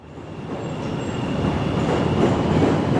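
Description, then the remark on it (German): An elevated subway train rumbles loudly at a station in central Chicago shortly after 8 a.m., a dense, steady roar that swells slightly louder as it goes on, with faint high metallic whines above it and no voices. “Kurz nach 8 Uhr morgens an einer U-Bahn-Station im Zentrum von Chicago.”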